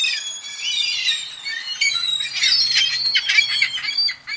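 Gulls call in a raucous, overlapping chorus of high squawks and wails, several birds crying at once without pause, loud, with no talking.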